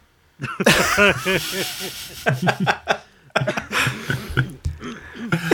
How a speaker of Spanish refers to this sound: El de las toses soy yo, pido disculpas, pero no llevo así 2 meses, ¿eh? Si es el coronavirus, anda que no se está tomando tiempo para incubar.